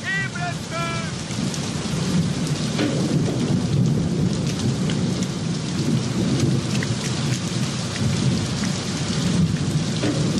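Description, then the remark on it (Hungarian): Heavy rain pounds down steadily and loudly throughout, with a low rumbling roar underneath and brief sharp spatters; a short high whistling or chirping sound appears near the start. “Duhog az eső!”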